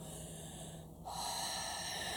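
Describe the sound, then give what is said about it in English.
A slow, deep breath with airy, rushing noise as the chest expands, a softer draw in the first half, then a louder, fuller breath that carries on to the end. No one speaks. “Breathing.”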